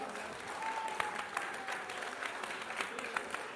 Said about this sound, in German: Gut, also du hast einen großen Wunsch an die Bildung und da entfaltet sich auch Applaus, den wollen wir jetzt natürlich nicht abwürgen.